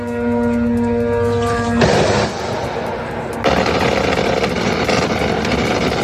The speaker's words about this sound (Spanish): Escuchas el sonido de las defensas antiaéreas tratando de derribar los drones iraníes, en este caso en la embajada estadounidense de Bagdad, en Irak.